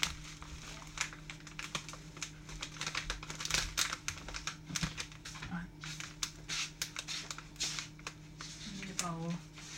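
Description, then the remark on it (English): A plastic packet of desiccated coconut crinkles and crackles in a steady run of irregular rustles, with a steady low hum beneath and a brief voice near the end. “Desiccated coconut.”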